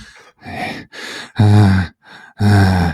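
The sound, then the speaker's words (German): A voice imitates another man's heavy snorting and grunting in a string of about six rough, breathy bursts, alternating softer huffs with two loud, strained grunts. “ist wieder zurück an seinen Tisch und hat weiter geschnauft”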